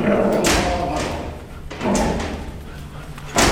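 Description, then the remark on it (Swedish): Several heavy metallic thuds and bangs ring out at irregular intervals as a dog is slammed against metal cabinets in Sweden, with a reverberant clatter and some background voices. “Oj, nu dänger de in den här hunden i plåtskåpen.”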